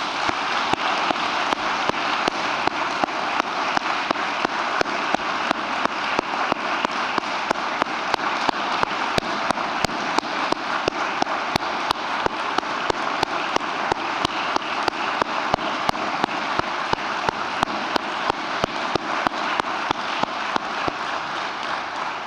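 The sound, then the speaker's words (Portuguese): A crowd applauds Manuela Aguiar of the Council of Portuguese Communities steadily for over twenty seconds, a dense, even wash of many hands clapping at a constant loudness, with no voices breaking through. “E assim, eu próprio irei propor no plenário da Assembleia da República um voto de saudação a Manuela Aguiar, que hoje temos a satisfação de estar entre nós e que peço novamente uma salva de palmas.”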